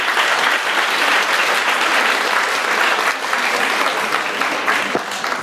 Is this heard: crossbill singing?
no